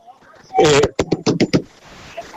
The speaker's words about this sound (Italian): Abbiamo sentito che qualcuno ha bussato.